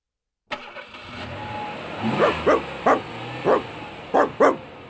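A dog in a car barks repeatedly, around six or seven sharp, loud barks in an uneven rhythm, over a steady rumble of car engine and road noise, during a Sunday drive out of town among many cars.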